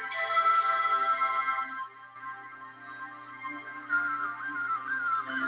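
signal or alarm, phone ringtone

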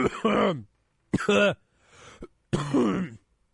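human body sound, coughing and throat clearing

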